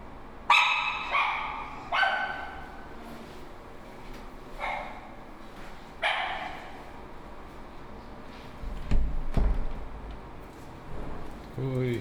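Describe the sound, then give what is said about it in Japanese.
Several dogs bark in short, sharp bursts, some loud, others quieter, with irregular pauses between yips and a low thump of movement near the end. “なんでこんな犬が、なんでブリネ、なんでこんな犬が懐いてくるんだ今日は。”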